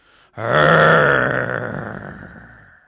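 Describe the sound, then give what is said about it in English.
A person's voice makes a long, loud, low guttural growl in imitation of a snarling werewolf, to frighten a brother hiding under the bed covers, rough and sustained for over two seconds before slowly fading. “It might be a werewolf. I growled again, louder this time.”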